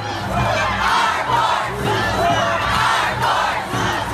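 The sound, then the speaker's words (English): A large crowd of protesters outside the US Supreme Court, after the Senate vote confirming Brett Kavanaugh as Associate Justice, shouts and yells together in a loud, continuous roar, with overlapping voices rising and falling in waves and no single speaker standing out. “And on the heels of the vote, protesters gathered outside of the Supreme Court.”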